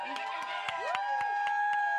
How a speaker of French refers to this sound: Effectivement, on peut l'applaudir. Oui.